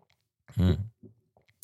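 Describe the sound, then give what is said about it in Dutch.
A single sip of coffee from a cup, a short gulping swallow with a low throaty tone, followed by a few faint clicks in otherwise quiet surroundings. “Over vroeg gesproken, ik neem nog een slokje van mijn lekkere bakje koffie.”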